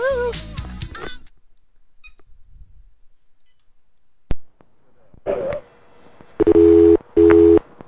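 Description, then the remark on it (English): A telephone ringback tone sounds near the end as two short, steady electronic buzzes in quick succession, clear and fairly loud, after a brief burst of music and a quiet stretch. “It's ringing.”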